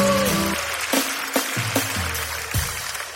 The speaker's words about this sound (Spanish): Un aplauso para ellos dos. Muchas gracias.